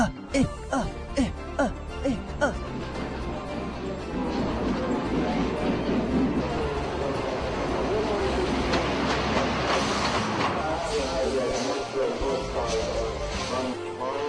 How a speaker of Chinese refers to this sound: 那是什么东西啊？火车哎！ 对啊，好奇怪哦。